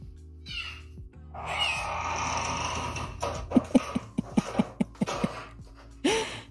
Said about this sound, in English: Oh, cute. It's a cat.